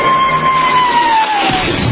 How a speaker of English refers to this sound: Okay, 25,000 cheering extras.